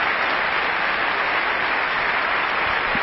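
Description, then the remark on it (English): A theater audience applauds steadily for the Embassy Theater volunteers, dense overlapping claps forming a continuous loud wash of sound with no voices breaking through for the whole few seconds. “a big round of applause for the Embassy volunteers, and I know that there are others that for one reason or another could not be here this evening, and we remember them and thank them also.”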